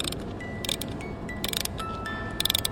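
A small wound-up music box modeled to look like a miniature sewing machine, with twirling bears, plays a few thin, high chiming notes over steady background hiss, with bursts of rapid mechanical ticking and clicking from its wind-up works.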